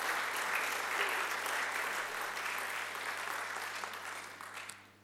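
A crowd claps steadily in a dense, sustained burst of applause lasting several seconds, then it thins and fades out at the end. No one speaks over it, and a low steady hum runs beneath.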